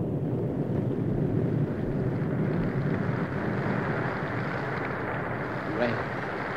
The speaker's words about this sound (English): Rain at last. Refreshing, wonderful, life-giving rain.